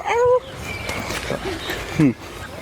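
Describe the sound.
A person imitates a dog with two short, loud yelping barks, one at the start and another near the end, separated by a quiet stretch of low background noise.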